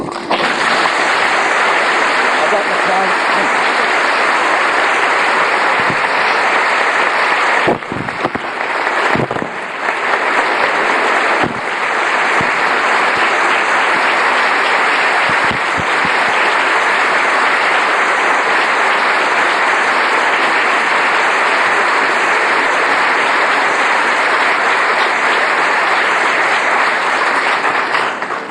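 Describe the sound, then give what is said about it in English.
Sustained audience applause: a dense, steady wash of many hands clapping at high volume for nearly thirty seconds, with a few brief dips, and no voices. “Larkin's expertise does cost money, but I hope you will agree with me and show it by your applause that this has been a particularly good investment.”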